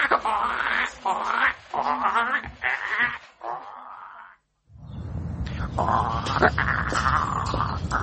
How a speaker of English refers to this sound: Let me see. What about the bird?